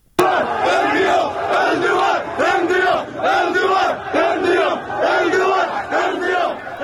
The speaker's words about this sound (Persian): تصاویر منتشره در شبکه‌های اجتماعی حاکی است که امروز تجمعاتی در شهرهای تبریز و تهران در حمایت از جمهوری آذربایجان برگزار شده است. در ویدیوهای منتشر شده شعارهایی در حمایت از بازپسگیری منطقه قره‌باغ سر داده می شود.